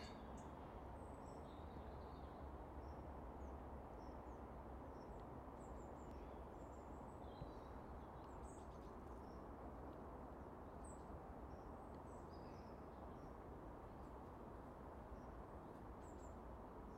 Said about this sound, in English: So calm, you can hear the drone from the motorway, the M8, that is the main conduit between Edinburgh and Glasgow. It's quite a bit away from here, but because of the calm still air, you can hear it away in the distance. It's like a rush of air.